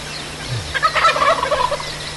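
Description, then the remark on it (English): A wild turkey gobbler, one of two, lets out a single rapid, rattling gobble in the morning, rising over a steady low outdoor hum with no one speaking. “And those two gobblers are still up there.”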